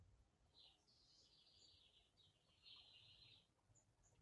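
Faint birds chirp and twitter almost continuously in high, thin bursts over a low background rumble, with no voices.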